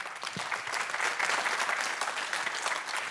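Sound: audience applause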